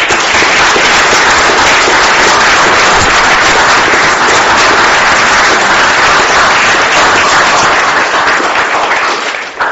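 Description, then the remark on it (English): Steady applause from councillors in a council chamber, clapping 40 new councillors in. A dense, continuous patter of many hands clapping at an even level fills the whole stretch before it starts to thin out at the very end. “So if colleagues can please join me in clapping the new ones in.”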